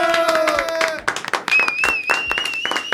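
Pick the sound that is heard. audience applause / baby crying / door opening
audience applause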